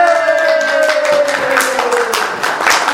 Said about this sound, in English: Yay! That's the applause of the concert audience when she comes back to life.